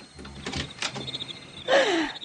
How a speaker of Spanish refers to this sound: Vamos, déjenme abrir la puerta.